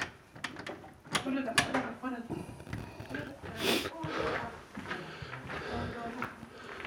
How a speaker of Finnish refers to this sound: Sitten mennään sisälle talliin ja näillä keleillä on tärkeää, että laitetaan ovi kiinni.